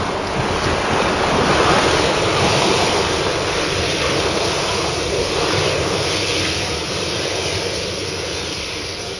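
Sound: ocean waves and surf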